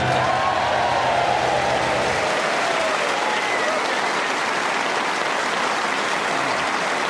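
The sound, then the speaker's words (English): An audience claps steadily for the full stretch, a dense, even wash of applause with a faint low murmur underneath that fades out after the first couple of seconds. “Can I say your clapping didn't help one bit?”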